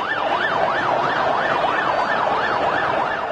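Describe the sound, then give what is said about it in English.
An ambulance carrying the injured sounds its siren, wailing continuously in a rapid rising-and-falling yelp, loud, over a dense wash of street and traffic noise. “Around the area, the continuous sound of ambulances carrying the injured can be heard.”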